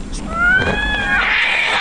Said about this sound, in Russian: Два это, или... Два это, кошака. Может, две кошки? А может, две кошки?